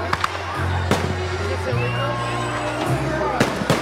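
fireworks exploding

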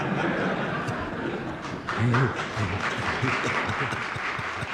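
applause

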